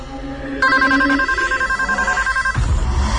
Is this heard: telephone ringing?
yes